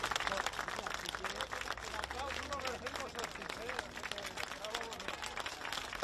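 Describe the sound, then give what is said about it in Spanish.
A crowd applauds steadily for several seconds at the doors of the Mercamadrid wholesale market in Madrid at the end of the king's three-hour visit, applause exchanged between the king and the market's staff and clients, a dense patter of many hands with voices calling and chattering throughout. “3 horas de recorrido que terminaban a las puertas con un aplauso que el rey ha querido devolver a todo el personal y clientes del gran mercado mayorista.”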